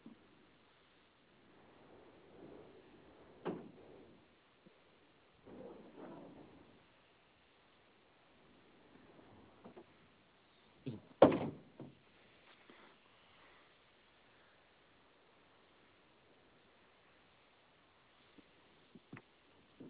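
A warehouse door is opened and shut during an alarm system check: quiet shuffling and creaking, a few soft knocks, and one sharper clunk as it closes. There is no talking, only low background hiss.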